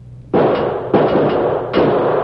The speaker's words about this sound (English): Never mind the key, you fool. Use your six-gun and blast the lock to pieces. It'll be awful noisy, boss.